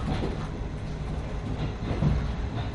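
Inside a moving JR East passenger train: a steady, continuous low rumble with faint rattling and occasional soft thumps from the wheels, with no voices.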